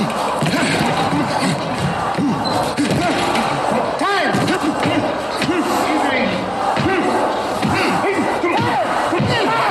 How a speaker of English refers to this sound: Now it stops. See, the chanting stopped once he knocked that guy out because I think it's in his head.